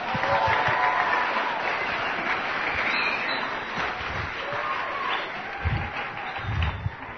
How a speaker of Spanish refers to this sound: Vamos a darles un aplauso a ustedes.